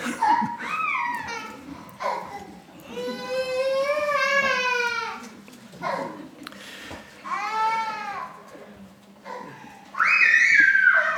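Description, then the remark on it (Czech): A baby cries in a series of wavering, drawn-out wails with short breaks between them, clear, ending in a louder, higher outburst. “To já ruším asi to dítě, že?”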